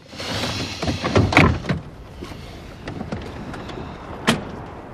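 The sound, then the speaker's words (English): Car doors click open with a cluster of handle and latch sounds as two people get out of a car, then a single solid thunk as a door shuts a few seconds later, with no talking. “makes a move to get out of the car and he gets out with her.”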